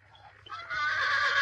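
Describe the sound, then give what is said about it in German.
A pony whinnies loudly like a real horse, a shrill, quavering neigh that rises in strength and holds for over a second, with a faint low rumble underneath. “Und dann noch ein anderes Geräusch, was mich irritiert hat, ist, wenn das Pony immer mal durchdreht, dann hört man so ein Wiehern wie von einem richtigen Pferd.”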